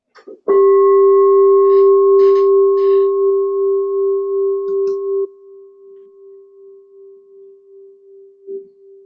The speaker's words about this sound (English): We'll do a bell between each teacher.